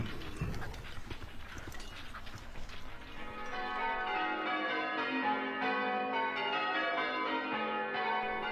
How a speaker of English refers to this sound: Bells, bells, bells. Ringing Marengo, Marengo, Marengo.